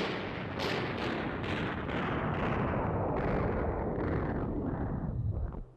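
A dense, continuous barrage of booming artillery and rapid gunfire, a battle sound effect with General Washington's forces, with repeated sharp bursts layered over a heavy low rumble, loud and unbroken until it cuts off abruptly at the end when British officers surrender under a white flag.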